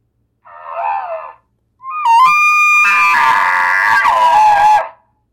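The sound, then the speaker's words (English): A bull's courting bugle that mimics the sound of another bull with cows: a short low moaning note, a brief pause, then a loud call that slides up into a high, piercing whistle and breaks into a long, raspy scream before cutting off. “And it's a courting bugle. Basically, you're basically mimicking the sound of being another bull with cows.”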